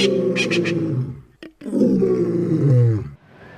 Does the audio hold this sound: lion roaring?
yes